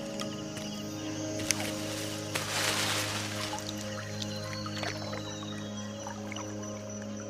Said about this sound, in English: The canoe continues along the clear, shallow river.